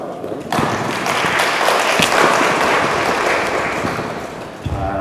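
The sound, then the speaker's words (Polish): An audience breaks into steady applause as a speaker is invited onto the stage, a dense wash of many hands clapping at a fairly loud, even level for several seconds before tapering off slightly at the end. “brawo.”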